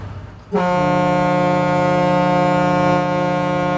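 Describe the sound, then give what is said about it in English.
A riverboat whistle on the Kanawha River blows one long, steady, loud blast, a low harmonic-rich tone starting abruptly after a brief moment of background rumble and holding without a break to the end. “If you want the whistle, I'll blow the whistle.”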